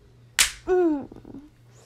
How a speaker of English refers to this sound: Yes, you can slap me.